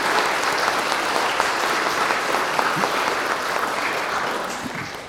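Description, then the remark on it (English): Steady applause from a church audience welcoming two girls after their baptism, a dense wash of many hands clapping at a constant loud level that eases off slightly toward the end, with no voices. “And let's welcome these girls with a round of applause.”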